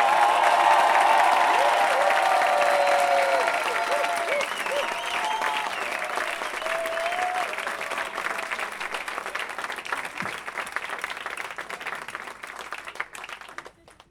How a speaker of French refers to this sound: Aujourd'hui, chaque fois que quelqu'un chante une goguette, pour la première fois, on l'applaudit deux fois plus fort, s'il vous plaît,